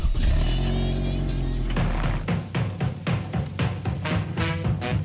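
A car engine starts with an ignition key and revs with a steady, low harmonic drone for about two seconds, then gives way to a run of punchy, rhythmic beats.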